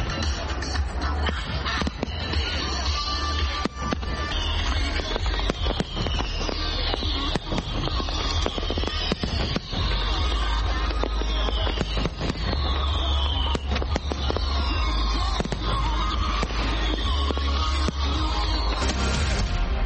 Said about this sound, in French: Toujours à Washington DC, à partir de 21h et pendant environ 17 minutes, depuis le National Mall, les Américains ont eu droit à des grands feux d'artifice.